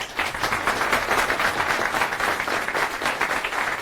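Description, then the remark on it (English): An audience applauds Linux because the display worked, before a talk on NextGraph, many hands clapping together in a dense, steady wash of sound that stays fairly loud throughout with no voices standing out. “So, another round of applause for Linux, because we didn't have any problem with the display.”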